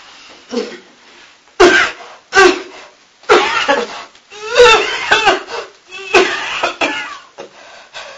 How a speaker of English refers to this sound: You've got a cough as well.